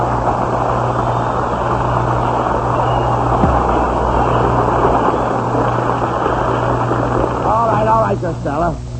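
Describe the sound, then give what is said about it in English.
A loud, steady whirring of a propeller on The Abbott and Costello Show runs unbroken for the whole stretch, with a deep droning hum beneath it; faint voices surface over the noise near the end. “What are you playing with that cord for? I think I got a prop.”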